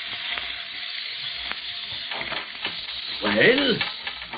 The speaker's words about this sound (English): Oh, mon Dieu. Fuse is burning fast.